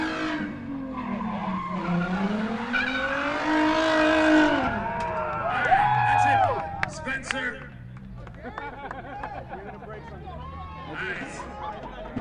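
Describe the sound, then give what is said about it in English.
A car skids, the driver hitting the brakes and the accelerator together, with a loud, sustained tire squeal that rises and wavers in pitch for several seconds, then breaks into shorter, scattered screeches as it fades, with voices murmuring underneath. “Yeah, because when you do this, you have to hit the brakes and hit the accelerator.”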